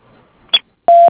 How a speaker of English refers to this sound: If you would like to leave a message, please do so at the beep.